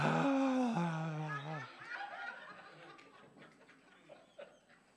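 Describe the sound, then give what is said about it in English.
A man's voice imitates the breathy, crooning singing of new worship songs: a couple of drawn-out, sliding sung tones, then softer, airy panting breaths and sighs, fairly loud at first before trailing off. “It's all breathy and...”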